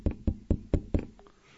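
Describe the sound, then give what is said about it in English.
Five firm knocks on a door in a quick, steady rhythm, solid with a hollow low thud, as devotees go door to door looking for Lord Nityananda, followed by a brief quiet tail. “They were going door to door.”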